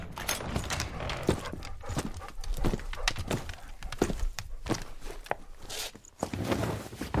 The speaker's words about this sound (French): C'est alors qu'on entend un chien aboyer et le pas d'un cheval.